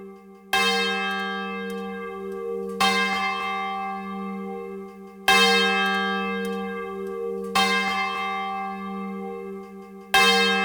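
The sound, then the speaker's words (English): A large swinging church bell rings alone as a traditional call to worship, with slow strokes, each loud clang followed by a long, humming resonance that lingers into the next toll, clear. “The unmatched realism of a swinging bell provides the community with a traditional call to worship.”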